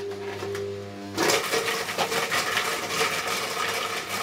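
A blender motor hums steadily for a moment, then bursts into a loud, harsh grinding roar as it chops hard chunks of oven-roasted vegetables, including onions, leek, parsley, tomato, mushrooms and carrots, rattling continuously until the end.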